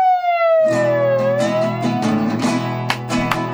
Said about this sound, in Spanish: Ya se escucha a lo lejos. Sí. Una sirena. Alguien que va a rescatar. Sí. Cada vez que está más cerca.